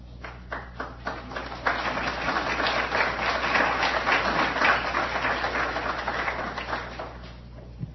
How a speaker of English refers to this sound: I'm not sure why I should get an applause for doing this, but I certainly do want to welcome you here tonight to West Virginia State University.